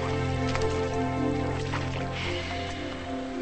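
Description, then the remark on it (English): Slow, sloshing footsteps of a man wading through ankle-high water between the rows of a cotton field, a few splashy steps spaced out over a steady low droning hum, with no talking. “He trudges through ankle-high water.”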